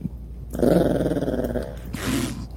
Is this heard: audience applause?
no